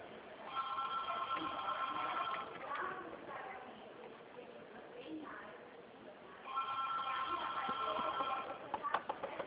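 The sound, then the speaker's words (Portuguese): A telephone rings in two long bursts of rapid, trilling electronic tones, separated by a pause with faint background murmur; the ringing is fairly loud, with a band-limited, phone-line quality. “Olha que esse telefone não para o dia inteiro.”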